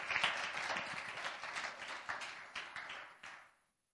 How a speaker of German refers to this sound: Freut sich jemand darüber? Lasst uns ihm mal einen Applaus geben.